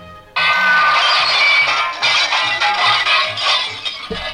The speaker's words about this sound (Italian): Un gran trambusto. Un vetro che si rompe. Un vetro che si rompe.